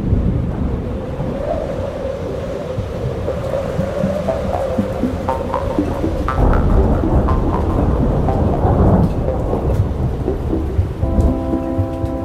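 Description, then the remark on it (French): Heavy rain pours down steadily with a dense hiss over the large market square of Vaison-la-Romaine after a violent wind, while low storm rumbles swell and roll underneath; a brief tonal hum appears near the end. No one speaks. “Quelques instants plus tard, c'est la pluie qui s'invite et la grande place vide.”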